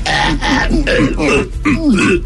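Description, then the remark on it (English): A person makes hacking, strained throat noises in several rough bursts, imitating a held-back sneeze, fairly loud. The sounds are a voice imitation. “Sound like the cat about to cough up the hairball.”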